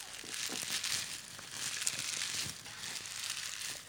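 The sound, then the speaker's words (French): Dry leaves rustle and crunch steadily for several seconds, a crisp crackling texture as if someone is shuffling or settling into a pile, with no voices. “J'ai envie de m'allonger sur ce tas de feuilles.”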